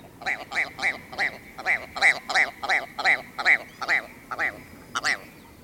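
A ptarmigan gives a rapid, laugh-like cackle: a steady run of about a dozen harsh, nasal notes, loud, with no other sounds around it.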